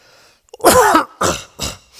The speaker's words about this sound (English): Oh, I didn't turn it off when I coughed, did I?